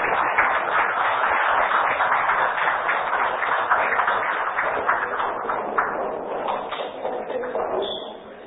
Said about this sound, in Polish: Prosimy o brawa.